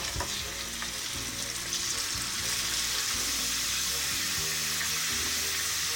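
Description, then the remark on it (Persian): Steady, loud sizzling and crackling of meat frying in hot oil with golden onions, salt and turmeric, a dense hiss filling the whole clip, with occasional stirring clatter and no one talking. “وقتی پیاز یکم طلایی شد گوشت رو بهش اضافه میکنیم.”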